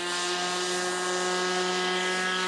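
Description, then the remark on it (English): A small unmanned plane built by students as the final project of their electrical engineering degrees drones steadily in flight, its propeller a constant buzzing whine with strong tonal hum, fairly loud and unchanging throughout, with no voices. “With more development, everything should be much smaller and importantly cheaper than traditional aerial photography methods like helicopters and light planes.”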